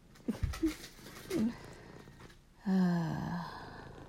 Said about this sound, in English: And one licking my face, purring.